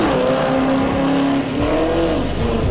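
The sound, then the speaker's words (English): A drag racing car engine, a Chevrolet Camaro in lane two, revs loudly, its growling pitch climbing and dipping in several surges over a few seconds, with no one talking. “Lane two, we got, looks like Seth Annabeth. He's in a Camaro, being a Chevy.”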